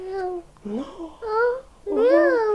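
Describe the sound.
A small child imitates a cat's meow, producing three or four high, drawn-out vocal bursts whose pitch rises and falls, with short pauses between them.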